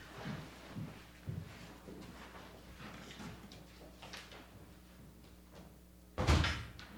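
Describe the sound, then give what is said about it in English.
A door is handled: soft thumps and clicks of it opening and moving, then a loud, sharp bang as it shuts near the end. No one speaks. “Here's the door right here. You find it. Get out. Get in and get out.”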